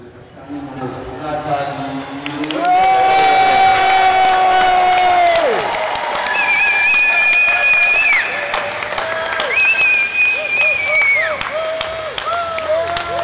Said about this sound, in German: Die Menge jubelt.